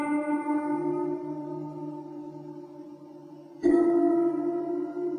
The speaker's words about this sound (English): And when they mic it, it has become the go-to instrument for scary movie soundtracks. And if you hit them, it makes one kind of tone. If you play them with a violin bow, it makes another kind of tone. This is the water phone. You will recognize it.